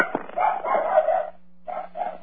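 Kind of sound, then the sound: animal, dog barking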